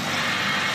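The motors of the AMI (Arc Minute Microkelvin Imager) radio telescope whir as the dish moves to another source in the sky, a steady mechanical buzz with a broad hissing hum that holds at an even level throughout the brief moment, with no voices.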